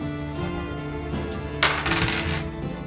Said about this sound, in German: Du kannst versuchen zu handeln, ja. Würfel mal auf Handeln.